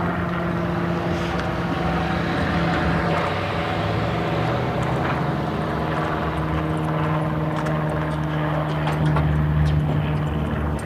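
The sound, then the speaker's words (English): Steady, loud engine rumble of road traffic with cars going by, a continuous low droning hum and faint whooshing swells, no voices. “Okay, where are all these cars going here?”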